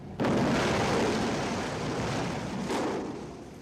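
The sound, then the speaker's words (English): An explosion bursts in suddenly and loudly as it breaks through the final side of the wall of the Kingsway Tunnel, the second Mersey Tunnel, during its construction in the late 1960s. A sustained roaring rush of debris and rumble follows, with a second surge near the end, no voices. “And with that mighty explosion, which in fact even knocked out one of the television cameras, the final side of the wall is down.”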